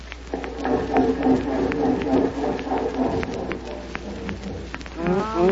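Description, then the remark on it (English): A car starter cranks over and over in a steady, grinding rhythm for several seconds without the engine catching, then gives out because the battery is dead. A brief wavering vocal sound follows at the end. “I said that little old battery dead, boss.”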